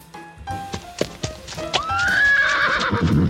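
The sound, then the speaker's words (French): A horse's hooves clop in a quick irregular series of sharp knocks in the Haut-Rhin, France, then a loud neigh rises and wavers, trailing off in a shaky whinny. “on sent tout de suite, Francis, que votre cheval a quand même un vrai caractère”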